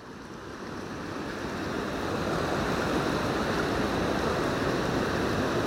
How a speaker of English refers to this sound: Well, here we are, back down at the riverside. And hopefully you can hear me above the roar of the weir in the background. We're at a little confluence, really, of the river, because there's a bit of an island in the middle.